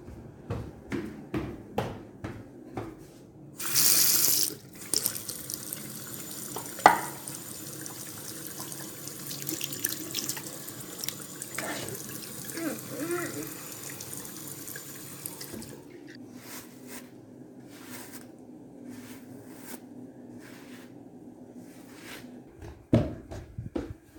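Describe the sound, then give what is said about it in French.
A bathroom tap runs in a steady hiss for about fifteen seconds while someone washes up, hands splashing and items clinking under it, then the water shuts off, leaving scattered small knocks and rustles. “Bien que fatiguée, je me lève et me dirige vers la salle de bain pour faire ma toilette.”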